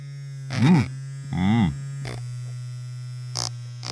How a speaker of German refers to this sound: Eine elektrische Zahnbürste.